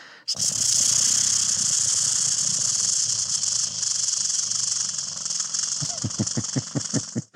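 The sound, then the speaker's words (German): A bird's rattling, churring song recorded from about half to three-quarters of a metre away, the bird unseen: a loud, continuous dry trill runs unbroken for several seconds, then breaks into a quick series of distinct rhythmic clicks at the end. “Dann klingt es auch nicht so schnurrend, sondern es klingt dann richtig rasselnd.”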